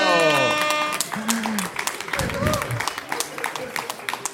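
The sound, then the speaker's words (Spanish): An audience breaks into applause, a steady patter of many hands clapping, with a few voices calling out over it after a brief musical tone at the start. “un fuerte aplauso”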